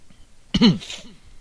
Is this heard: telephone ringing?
no